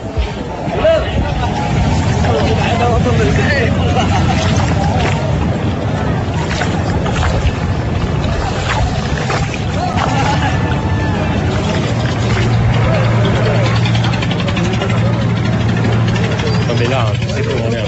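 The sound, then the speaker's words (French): A busy harbour soundscape at the port of Dakar, with huge ferries: boat engines idle and rumble steadily while a crowd's babble and voices fill the air, dense and continuous throughout. “On est sur le port de Dakar, là, c'est complètement délirant.”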